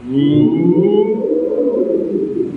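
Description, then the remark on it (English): An audience imitates a siren together, starting on a 'woo', a loud, continuous mass of overlapping hoots sliding up and down in pitch for a couple of seconds. “We can make the same siren sound.”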